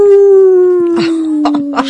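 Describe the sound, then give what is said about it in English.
A voice imitating a werewolf lets out a long, loud wolf-like howl, holding one steady note that slowly sinks in pitch, while brief noisy bursts flare up toward the end. “In Bernie Slavin's case, he used to be a werewolf, but he's all right, Ockeye the New!”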